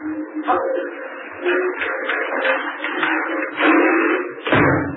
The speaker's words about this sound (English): Oh, so that's the game, is it? Watch doesn't come in here, then he shut the ice door on us. We'll see how much difference that makes to Superman.